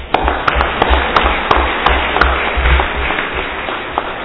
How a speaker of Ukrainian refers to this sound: Прийнято одноголосно. Аплодую.